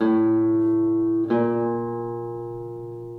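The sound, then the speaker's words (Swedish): A steady electronic tone with rich harmonics holds for about a second, briefly cuts, then resumes and sustains, fading slowly. Fairly loud, no voices. “Och så en annan efter nästa ton.”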